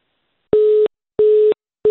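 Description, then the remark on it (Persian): A telephone busy signal after a phone call disconnects: a steady, buzzy tone pulsing in short, evenly spaced beeps, loud, with clean silence between each burst and no voices. “بله تلفنم بیرته قطع شد.”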